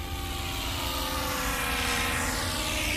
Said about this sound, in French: J'ai 4 pattes, 2 ailes et je vole sur la planète Mars. Je suis... Enfin, les trucs qu'on lance depuis les fusées. Ah oui, un satellite. Pas loin, je suis l'hélicoptère Ingenuity.